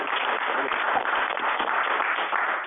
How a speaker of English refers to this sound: Thank you. That was a great question. That was what was needed for this conversation. Thank you. Let's have a round of applause for that question.